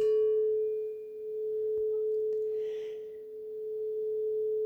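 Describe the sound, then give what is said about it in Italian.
A tubular bell rings with one long, steady mid-pitched tone, accompanying a guided body-awareness meditation. Its brighter overtones fade early while the main pitch sustains evenly to the end, with no voices. “Intanto ti accompagnerò in questo viaggio di consapevolezza nel tuo corpo con un suono di una campana tubolare.”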